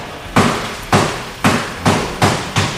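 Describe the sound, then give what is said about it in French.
Five loud hammer blows on sheet metal, evenly spaced about half a second apart, each a sharp bright clang with a short ringing tail, as the wing of a badly damaged car is beaten straight at a car body shop in Seine-Saint-Denis, in suburban Paris. No voices. “Elle est en bleu de travail, tournevis à la main, en train de redresser avec un jeune employé l'aile d'une voiture bien amochée.”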